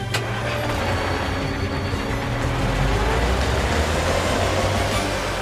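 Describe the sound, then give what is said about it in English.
A car engine rumbles loudly and steadily as the vehicle drives through the streets in traffic, a continuous low motor drone with road noise and no voices, unbroken throughout. “Carl drives through the streets.”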